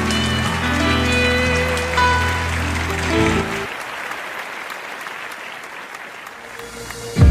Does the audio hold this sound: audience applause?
yes